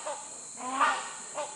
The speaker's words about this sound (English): But upon arrival, we heard something else, which to me sounded like a giant angry duck. Our guide explained it was not a duck, but rather a large bird known as the hornbill.